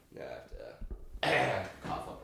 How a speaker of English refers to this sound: But hold on one second, I have to clear my throat.